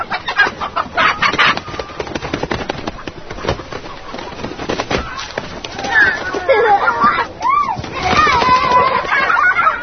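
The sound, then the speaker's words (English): A hen clucks repeatedly in short, busy bursts, with a few higher squawks near the end, while someone is told to grab and hold it, mixed with voices talking over and around it. “Ven para acá, agarra la gallina. Agárrala bien.”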